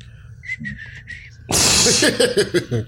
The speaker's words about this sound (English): That was a pretty weak whistle by me, too. Very bad job by you.